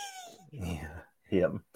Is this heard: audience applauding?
no